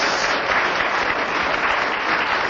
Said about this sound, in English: Oh, I think he deserves a round of applause for keeping going.